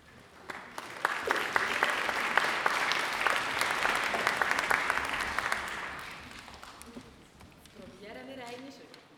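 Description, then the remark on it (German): An audience at a Christmas choir event breaks into steady applause, a dense wash of many hands clapping for several seconds before it thins out and fades, followed by a voice beginning to speak. “Danach fröhliche Weihnacht überall, beim Applaus, danach seid ihr dann am Ball.”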